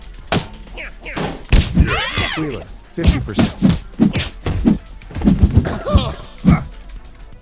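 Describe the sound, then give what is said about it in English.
Several sharp, punchy thuds from a video game's punch sound effect, triggered by pressing the Enter key, land at uneven intervals, fairly loud, mixed in among a voice speaking throughout. “I can punch 50%. With enter.”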